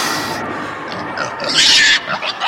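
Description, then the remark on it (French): A large pig named Henri, no longer a piglet, grunts and snorts in a run of rough, noisy bursts, building to a louder, harsher squeal near the end before trailing off into short grunts. “D'accord, t'es plus un porcelet, t'es un gros cochon, mais fais attention à toi”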